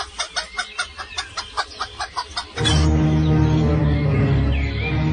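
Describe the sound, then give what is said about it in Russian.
A hen clucks in a quick, steady series of about ten short clucks as it walks away, then the sound shifts abruptly into a dense, continuous noisy wash with a low hum. “Но курица ничего не обещала. Кудахтая, она пошла своей дорогой.”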